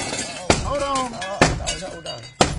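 St. Louis Fire Department firefighters cutting a hole in a door at Centennial in St. Louis to get people out: three loud, sharp blows land roughly a second apart, each with a brief crunching crack, while voices talk in between.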